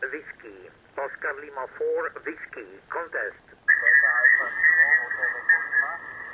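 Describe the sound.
Band-limited amateur radio voice chatter during a radio contest, then a second transmission cuts in on top of it with a steady whistling carrier tone, the signals of two adjacent stations overlapping at moderate loudness.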